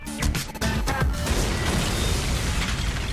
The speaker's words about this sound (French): Il y a des explosions maintenant.